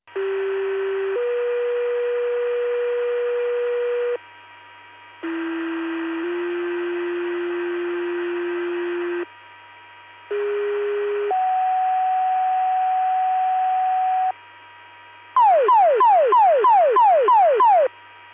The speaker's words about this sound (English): full spill pager test, testing for Peru fire and EMS. LaSalle, Oglesby, and Spring Valley Fire Departments. Please disregard the tones, reset your pagers